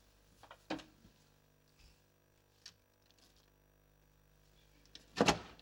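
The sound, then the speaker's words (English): A cabinet door wobbles on loose hinges, giving a sharp clunk, a few faint creaks and taps, then a louder rattling knock several seconds later amid otherwise quiet. “Well, for starters, that cabinet door is coming off its hinges.”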